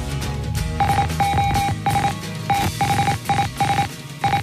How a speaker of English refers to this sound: That's not SOS. No, it's not, but it is Morse code.